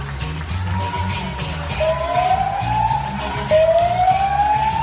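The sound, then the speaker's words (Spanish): A police car siren wails with rising sweeps over a dense backdrop of rhythmic music and crowd noise as supermarket staff dance in the middle of Príncipe de Vergara street in Madrid's Chamartín district to neighbours' applause; the siren is loud. “Es que hasta la poli se suma a la fiesta, ¿eh?”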